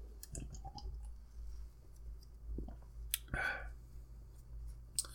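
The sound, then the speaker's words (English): Quiet mouth sounds of someone taking a single sip of an IPA beer, with a brief slurp and small wet clicks against a low background hum. “So I'm going to I'll do a sip. One sip, everybody knows the rules.”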